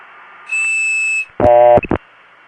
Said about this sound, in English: Anyway, next is a ringtone in Barbados, which sounds exactly like some of the ringtones that you could hear in London.